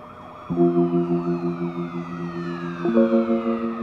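emergency vehicle sirens

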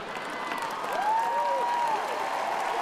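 audience clapping

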